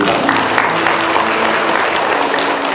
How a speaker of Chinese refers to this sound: 我们鼓掌，把荣耀归给上帝。